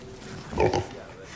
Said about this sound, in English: Is that a pig? It's poor Selena. A pig. Isn't she pretty? You brought a pig to school.